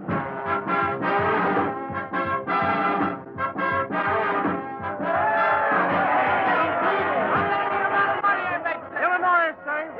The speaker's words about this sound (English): Yes, November 7th, 1944, a typical American election night with wild, excited crowds swarming in New York's Times Square, Chicago's Loop, and around the town hall in Tompkins Corners.